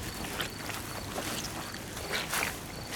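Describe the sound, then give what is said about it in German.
Several footsteps crunch and squelch at an uneven pace through a moor, over a steady wash of outdoor background noise, with no one speaking. “Hey, das sind doch Schritte.”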